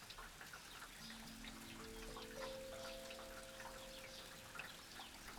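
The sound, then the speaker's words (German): Steady rain patters down during a thunderstorm with a dense spray of small drops, even throughout, heard through an open farmhouse window, while soft sustained tones rise in gentle steps underneath. “Sie hatte das Fenster geöffnet und schaute hinaus in den Regen.”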